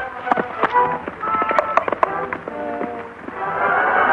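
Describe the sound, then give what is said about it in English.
Hooves of Silver, a white stallion ridden by the Lone Ranger, clip-clop in an uneven series of sharp knocks, mixed in with a steady tonal background that sounds like music playing underneath. “Soon, under expert and gentle guidance, the horse quiets and responds quickly to the Lone Ranger's lead.”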